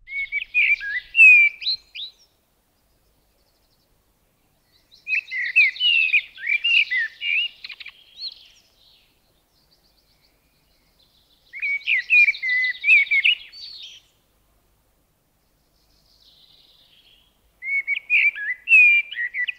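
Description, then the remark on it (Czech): A common blackbird sings four melodic, fluting phrases, each a couple of seconds long and separated by brief pauses. The song is clear against an otherwise silent background. “Známý melodický zpěv patří kosu černému.”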